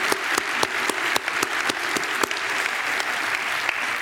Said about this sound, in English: Let's give our great God a round of applause for what he's done here at CIU. Amen.